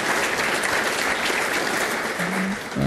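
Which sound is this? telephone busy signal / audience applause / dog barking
audience applause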